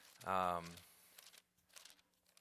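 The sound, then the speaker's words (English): A brief hummed vocal sound gives way to soft, crinkly rustling as the paper pages of a Bible are turned to look up Matthew 28, quiet and scattered over a couple of seconds. “I normally have a tablet in front of me, and I punch a button, and I'm looking at it. Now I got paper here.”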